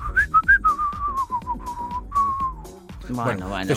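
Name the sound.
person whistling a tune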